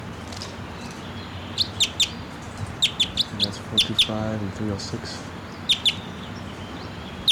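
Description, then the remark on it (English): A wild bird perched right above a net about 10 feet from the ground, looking down at decoys, gives a series of sharp, high-pitched chirps in quick bursts, pausing and then calling twice more, while a man speaks briefly beneath the calls over a steady low background hum. “and that bird just flew down. And he's perched right above the net now, about 10 feet from the ground, looking down at the decoys.”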